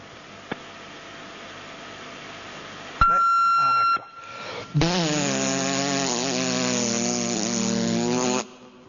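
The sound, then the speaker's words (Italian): An answering machine's electronic beep sounds as a steady high tone lasting about a second, followed by a person humming or singing a sustained note in reply, slightly flat compared to the beep. “Era un po' calante rispetto al bip”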